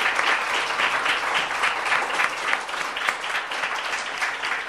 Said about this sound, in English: Well, that's the longest applause anybody's ever gotten